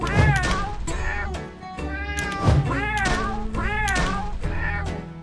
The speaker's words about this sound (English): Are you slapping kittens right now? What the fuck just happened? What the actual fuck is that?